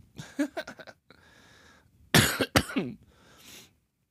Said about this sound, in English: I don't know if you can tell or not, but I'm a little congested, and I'm trying very hard to limit the amount of coughing that I do. So I apologize if the cough is loud or anything.